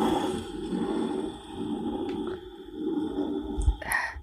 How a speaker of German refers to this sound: Ich reibe jetzt mal meine Dose über den Schreibtisch.